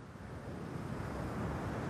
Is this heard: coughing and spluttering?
no